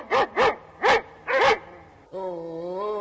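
A dog barks four times in quick, sharp, loud bursts, then lets out a long, steady whine.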